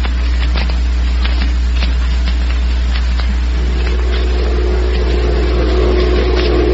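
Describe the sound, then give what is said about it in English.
A bus engine rumbles steadily as the bus creeps slowly along, a constant low drone with road noise and occasional rattles and clicks layered on top, no voices. “can't this bus go any faster? Here it is 5 minutes after nine, and we're creeping along like a mouse after a cat.”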